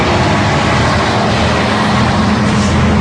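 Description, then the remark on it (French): A bus engine rumbles steadily as the bus departs, a dense, even roar with a low hum underneath and no pauses, with no voices over it. “Départ des bus, midi.”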